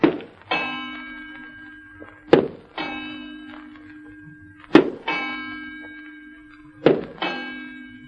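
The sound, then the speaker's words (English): Heavy thuds of a person's footsteps, walking heavily beside a clock in a house, land every two seconds or so, and each one sets the clock's bell ringing with a sustained, shimmering tone that lingers until the next step. “Why, that clock rings when you walk”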